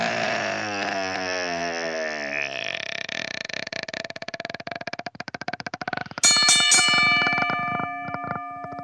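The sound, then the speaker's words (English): A gurgling, burp-like sound gives way to a fast, rattling ring, then a loud, bright bell tone rings out and hangs in the air near the end. “Ring the bell!”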